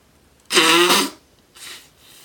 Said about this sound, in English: Now I'm going to blow my nose.